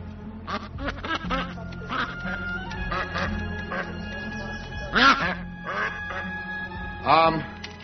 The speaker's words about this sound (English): Calm down. It's just a duck.